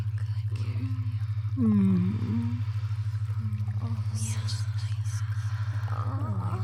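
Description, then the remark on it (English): Hot tub jets run with a steady low motor hum and continuous bubbling, gurgling water, even throughout, while soft voiced sounds rise and fall faintly over the churn. “Feel the water jets massaging your back”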